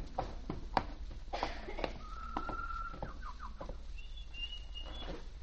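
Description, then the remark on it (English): A small bird in a cage chirps and trills in short, bright bursts, with a sustained whistled tone and quick chattering notes over a faint background hum. “Oh, look at that poor little bird in a cage.”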